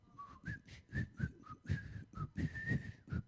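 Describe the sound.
Someone whistles a short, bouncy tune, a series of quick rising and falling notes with brief gaps, over a soft, rhythmic low accompaniment.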